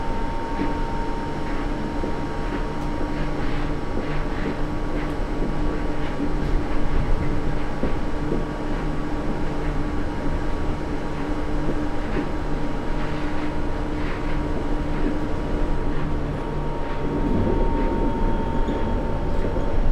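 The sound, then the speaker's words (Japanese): Steady rumble and rattle of a commuter train in motion between stations, approaching Ariake station (U12), where passengers change for the Rinkai line; a continuous loud drone with faint tonal whine and occasional clacks, heard from inside, with no one talking. “The next station is 有明 U12. Please change it for the 臨海 line.”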